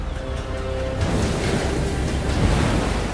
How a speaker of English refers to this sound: The Fastnet Rock Lighthouse. The Atlantic Ocean. One of the most dangerous bodies of water in the world.